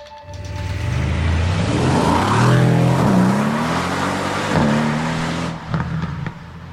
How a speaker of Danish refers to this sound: Bilerne ruller afsted mod Sverige og mod et hotel i Malmø.